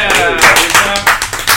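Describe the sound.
An audience claps in irregular, sharp bursts while voices call out and cheer over the noise, all fairly loud throughout.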